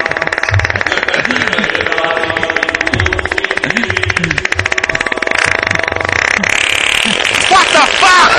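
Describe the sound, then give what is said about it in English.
A voice makes a long, loud, flapping fart imitation, a rapid buzzing rattle of the lips that sputters on for several seconds before breaking into a few higher, squeakier bursts at the end. “the priest is talking and you don't, you know, you think, all right, well, I can kind of like manipulate myself a little bit. Just like manipulate myself, but it comes out like that. Flapping.”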